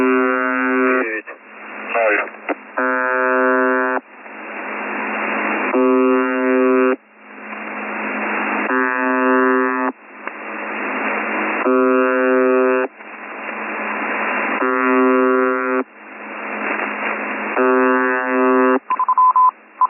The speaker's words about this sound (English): What was interesting was we also heard test counts over the buzzer at the same time. So we'll play that for the edited version now.